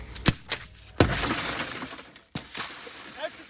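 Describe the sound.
Police in Florida strike a driver's car window during a traffic stop with a few sharp, loud blows, and one sends glass shattering and crunching for a moment before another hard hit. Raised voices sound underneath.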